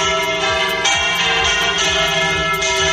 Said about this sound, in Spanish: Así han repicado este domingo las campanas de la Catedral de la Almudena en Madrid.